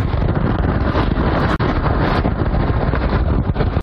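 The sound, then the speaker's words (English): Powerful hurricane wind roars nonstop beside the Calcasieu River in Louisiana, buffeting the microphone with a dense, loud rumble and hiss, a brief dropout midway, with the river's churning water faintly beneath the gusts. “So here's what it sounds like to be in a hurricane.”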